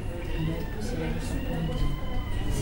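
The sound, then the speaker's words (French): A woman lets out a long, strained, sustained moan as she pushes in labour during a birth, her voice held steady for the full few seconds with no words. “Elle n'a pas fini, elle pousse.”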